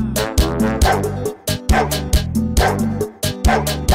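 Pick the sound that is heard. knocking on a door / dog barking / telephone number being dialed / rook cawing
dog barking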